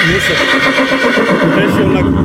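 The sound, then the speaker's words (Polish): A 10-year-old Małopolski mare named Bakara whinnies loudly in one long, wavering neigh that fills the whole couple of seconds, strong and steady throughout, after breaking her lead rope while being unloaded from a trailer for veterinary treatment. “Ma 10 lat, bakara, rasa małopolska. Przyjechaliśmy z nią na leczenie do weterynarii.”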